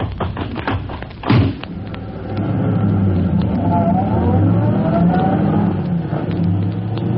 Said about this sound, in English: The time is 12 minutes to 1 o'clock in the morning. The night is pitch black, and as Polecat and Scrubby in their fast car escape from the scene...